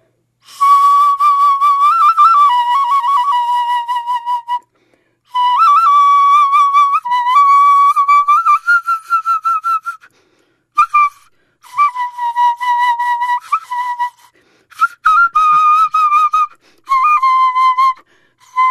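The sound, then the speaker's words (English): A bird-bone flute plays a high, breathy melody in several phrases, wavering notes and quick trills broken by short pauses, with no talking. “And it sounds like this – I kind of feel like I can almost see the bird there that this used to belong to, that this bone used to be a part of.”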